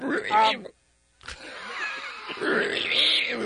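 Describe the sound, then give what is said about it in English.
A person imitates a pig's squeal: a short, loud voiced squeal, a brief pause, then a longer, raspy, high-pitched squealing sound lasting a couple of seconds. “My pig impression.”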